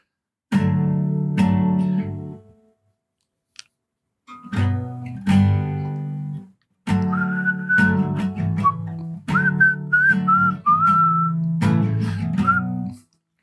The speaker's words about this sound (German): Mit Gepfeife.